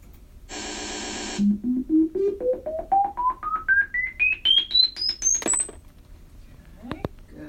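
A brief burst of hissy noise, then a run of about fifteen loud, evenly spaced beeps, each one higher in pitch than the last, climbing from a low tone to a piercing high one.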